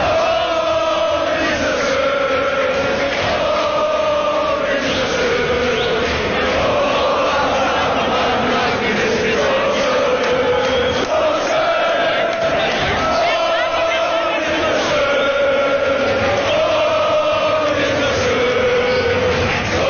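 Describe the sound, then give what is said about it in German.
A large crowd of Kaiserslautern football fans sings and chants together in celebration, loud and continuous for the whole stretch, with many voices blending into sustained, rhythmic melodic lines. “Und so hat man gefeiert in Kaiserslautern, ein ganz besonderes Publikum.”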